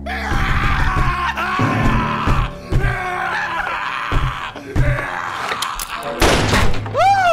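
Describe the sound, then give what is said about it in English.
Several heavy, dull thuds land at irregular intervals as someone pounds on a thick door trying to get through it, mixed with loud strained vocal groans and yelling over a busy musical background. “That door's too thick. I can't make a connection.”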